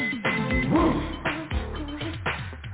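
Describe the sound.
A person imitates a dog barking, letting out a run of quick, yappy barks and yips, fairly loud and uneven in rhythm.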